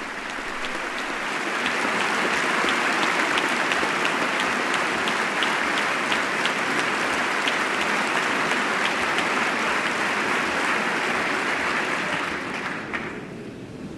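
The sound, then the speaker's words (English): Sustained, dense applause from a large crowd in the chamber, steady and loud for about twelve seconds before tapering off at the end, as Dikembe Mutombo stands in the box beside the First Lady. “He's quite tall and receiving a hearty round of applause from the chamber.”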